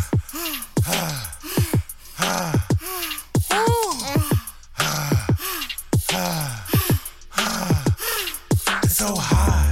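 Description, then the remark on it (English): Heavy, breathy panting from a person after running in the heat, a quick run of voiced gasps and groaning exhales in uneven bursts that keeps going for several seconds without any words. “…, you're panting.”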